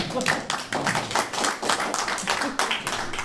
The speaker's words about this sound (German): Da kann man auch mal einen Applaus kriegen für.